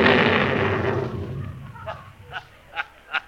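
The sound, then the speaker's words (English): A loud, roaring comic explosion effect of a giant hiccup bursts out and slowly rumbles away, followed by four short, sharp hiccup-like pops spaced at a steady rhythm, with no voices. “Looks like he's going to explode.”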